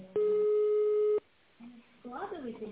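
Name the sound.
telephone ringing tone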